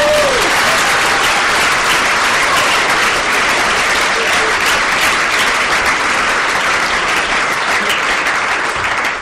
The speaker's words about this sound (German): Ein Applaus für Robert Laumann.